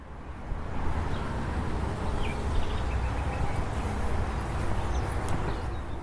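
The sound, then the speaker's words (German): Constant roar of Autobahn motorway traffic, a dense low rumble that holds steady for the whole stretch without distinct passing vehicles, moderately loud, with no voices. “Und nun Autobahn.”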